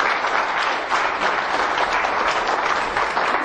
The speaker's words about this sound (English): Give God a hand of applause.